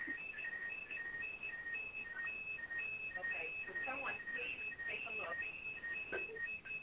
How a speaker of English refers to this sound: Okay, would someone please take a look? There's an alarm right there.